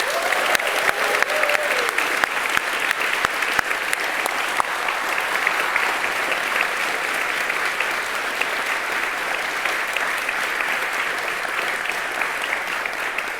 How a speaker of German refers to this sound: Wir müssen HFG und ZKM danken und insbesondere den ZKM-Technikern dort hinten, die uns wunderbar mit der Technik betreuen und diese Veranstaltung überhaupt erst möglich machen. Ja. Von daher, dieser Applaus ist für euch.